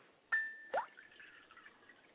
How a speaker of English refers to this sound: And as we pour water to the ground, we sanctify this area, sanctifying it, that it is set aside, separate, as we are to be from the world.